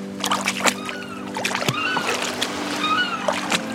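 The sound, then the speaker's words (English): A water scooter's engine idles with a steady low hum while water splashes and sloshes around it in shallow water as riders walk in to get on, with no one speaking. “Now we're ready to get on the water scooter. We have to walk into the shallow water to get on.”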